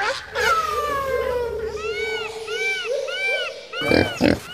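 A Kunekune pig at the Mühlendorf of Hellabrunn Zoo grunts loudly, a string of rising-and-falling squealing grunts repeated several times, ending with a couple of rough, louder snorts.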